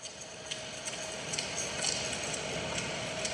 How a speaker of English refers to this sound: I'm really puzzled as to, like, what use there would be for air conditioner with Japanese woman talking faintly behind it.